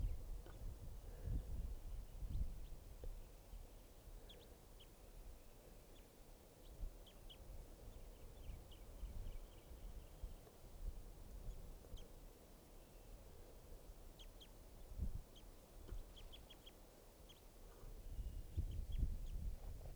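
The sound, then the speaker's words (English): Faint, short high call notes from a female type 2 bird come in scattered bursts over a steady low rumble of wind and outdoor noise. “Recording that female type 2 again.”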